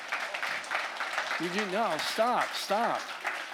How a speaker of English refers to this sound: Stop. Don't be clapping. They're not dancing bears.